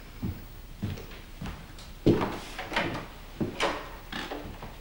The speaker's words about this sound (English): Wakeham stalks over to the door and holds it open.